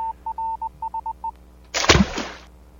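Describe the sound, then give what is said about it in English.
A voice imitates a submarine: a run of steady, mid-pitched beeps in short and long Morse-like bursts, then a sudden loud, hissing whoosh that trails off after about a second. “Morse code and then the drop? That's my impersonation of a submarine.”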